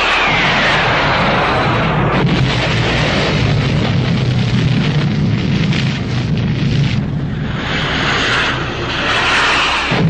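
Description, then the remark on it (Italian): A loud, continuous roar of military aircraft passing low over the centre of Santiago, Chile, during the 1973 coup, with deep rumbling booms of the army bombing the Palacio de La Moneda mixed into the din. No voices are heard. “Degli aerei volano nel centro della città. Esplosioni, fiamme, urla.”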